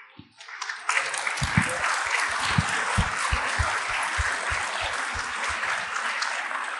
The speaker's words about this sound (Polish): To jest najstarszy uczestnik, najstarsza uczestniczka Metamorfozy. Także wielkie, wielkie brawa. Jak widać po 30. Wielkie brawa